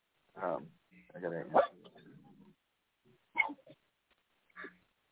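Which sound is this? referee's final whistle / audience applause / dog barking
dog barking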